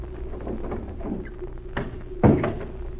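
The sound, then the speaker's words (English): A door swings open and bumps shut, with a short creak, then a solid knock near the end over a steady low hum. No one speaks. “Now, mademoiselle, here's the door.”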